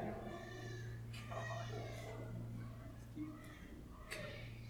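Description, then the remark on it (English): A baby cries steadily in long, wavering wails that rise and fall in pitch, with a low constant hum underneath. “That is one upset baby.”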